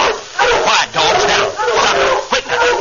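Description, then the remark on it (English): Several dogs bark in a loud, continuous clamor, their overlapping barks filling the scene while voices shout over the noise. “Quiet, dogs. Now, stop it. Quit now. Stop it.”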